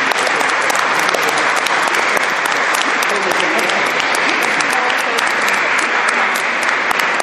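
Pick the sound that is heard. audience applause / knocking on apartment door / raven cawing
audience applause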